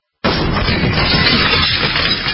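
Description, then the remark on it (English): A burglar kicking in the door of a dark house: a sudden, loud crash bursts in and becomes a dense, rough roar of splintering noise that holds steady for about two seconds. No voices are heard. “That's what it sounds like when a burglar kicks in the door of a dark house that looks like no one is home.”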